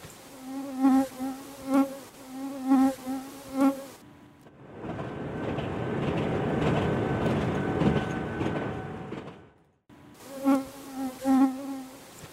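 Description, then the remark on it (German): Mosquitoes whine in pulsing swells that rise and fade in a quiet forest about 500 meters from a railway station, then a long steady rumbling roar of distant freight trains on a single-track ore railway drowns them out for several seconds before the buzzing returns. “Nur das Summen der Mücken und die in der Ferne ratternden Güterzüge sind zu hören.”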